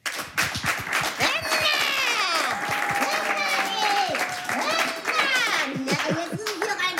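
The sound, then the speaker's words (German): A crowd in Berlin applauds steadily for several seconds to welcome performers onto the stage, dense clapping mixed with loud whoops and cheering voices rising and falling over it, full throughout. “Ich bitte um einen donnernden Applaus zum einen für Mozzarella und für unseren Stargast”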